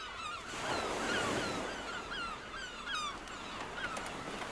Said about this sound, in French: Je peux changer complètement l'ambiance de ma cabine, les odeurs, les températures, le fond sonore. J'en ai marre des tropiques. Cine? Oui, mademoiselle. Ambiance plage bretonne.